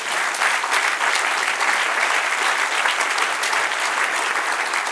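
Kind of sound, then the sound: crowd, audience applauding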